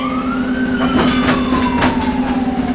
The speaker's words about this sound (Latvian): Vilciens sāka kustību, bet likumsargi, riskējot ar savu dzīvību, pārbrauc pāri dzelzceļa pārbrauktuvei, lai dotos tālāk.